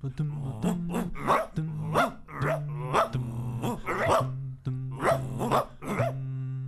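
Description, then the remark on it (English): A dog barks repeatedly, short loud barks mixed with low rumbling growls, in a steady run of bursts lasting several seconds. “Hey, lady, can I pet your dog? Oh, what a nice doggy.”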